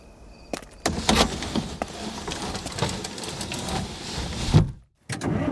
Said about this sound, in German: Ohne ein weiteres Wort setzt Pollock den Wagen wieder in Bewegung.